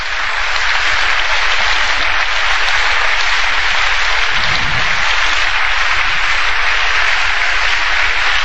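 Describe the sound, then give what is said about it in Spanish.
A crowd at a religious gathering claps steadily and loudly after the Father proclaims that Jesus Christ is Lord, a dense, continuous wash of many hands applauding together for several seconds with no voices standing out. “Ahí aplaudía más fuerte que nosotros.”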